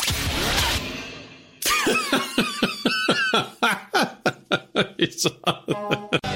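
coughing

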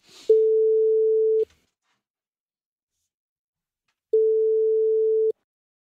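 telephone ringing tone

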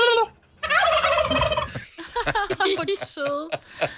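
turkeys gobbling

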